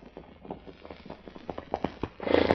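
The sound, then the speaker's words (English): Horse hooves clip-clop in a quick, steady rhythm on a polo field during a girls' team practice, growing louder as a rider rides up to the coach, ending in a burst of louder, scuffling hoofbeats. No voices. “Diane breaks away from the others and rides imperiously up to Toby Trent, the coach”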